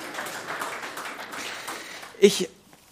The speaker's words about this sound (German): Danke euch dafür. Genau, das klatsche ich mal für euch.